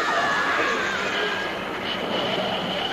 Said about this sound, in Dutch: Kijk uit, de trein rijdt nog.